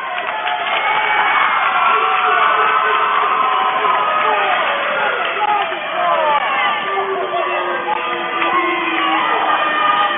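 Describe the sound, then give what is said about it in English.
A loud, sustained roar of a basketball crowd cheering at the halftime buzzer after Ian Samuelson's shot from near the free throw line, with dense overlapping shouts and whoops, steady and unbroken for the whole stretch. “What is more to be said than what the crowd has to say?”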